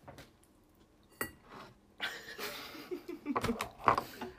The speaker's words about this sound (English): Oh my god. Keep opening this drawer.